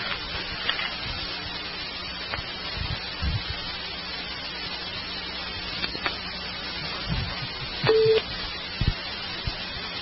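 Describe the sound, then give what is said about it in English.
Hissy, crackling telephone line noise with scattered faint clicks during a phone call, then a single short, clear beep tone near the end signaling another incoming call on the line. “I just got another beep when you were checking yours, and I went to answer it”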